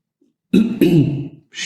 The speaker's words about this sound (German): Ich wollte die ganze Zeit schon räuspern. Jetzt konnte ich endlich die Gelegenheit nutzen.